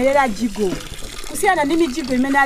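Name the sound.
water running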